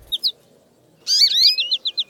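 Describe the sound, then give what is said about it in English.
A songbird's bright flight call, given during its deeply undulating flight: two quick high chirps, then a tumbling burst of rapid twittering notes that settles into a bouncy, evenly spaced series in a 'potato chips' rhythm. Clear, with no voices. “Listen also for the fun little call they give during their deeply undulating flight.”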